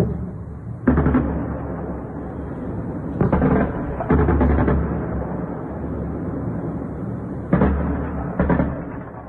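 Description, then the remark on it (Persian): Anti-aircraft gunfire from an air defense drill in Bushehr, Iran, at 5 a.m. local time booms out in repeated heavy bursts over a constant rumbling roar, loud and continuing without pause, with several sharper blasts standing out from the noisy background. “در شبکه‌های اجتماعی کاربران ویدیوهایی از شلیک ممتد ضد هوایی منتشر کردند.”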